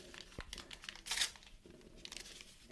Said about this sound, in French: Donc, je déchire le papier en petits morceaux.